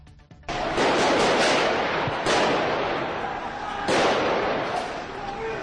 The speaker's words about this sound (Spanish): Esos son los disparos de la operación.